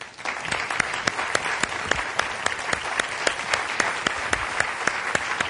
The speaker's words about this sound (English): So now I ask you, please welcome and offer a good round of applause to Senator Joe Biden.